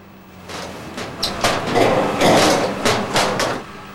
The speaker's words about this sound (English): The dustmen empty their bins into the truck just outside the safety of the boat's cabin.